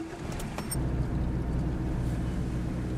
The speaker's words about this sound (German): Auf dem Rhonedamm hält er den Geländewagen an.